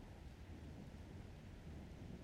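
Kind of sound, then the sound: nature, distant rumbling thunder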